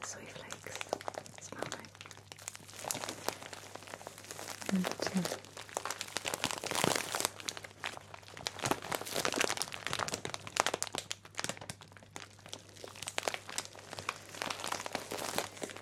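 A plastic bag of soy wax flakes, used for making candles, is crinkled and squeezed, producing a steady run of dense, crunchy rustling with sharper crackles mixed in throughout.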